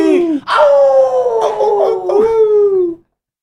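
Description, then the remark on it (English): A person playing a tabletop role-playing game lets out a loud, sustained howl of celebration lasting about three seconds, the pitch wavering and sliding downward with a few breaks, then it cuts off into silence. “Well, do you howl? No, okay. The player's celebrating.”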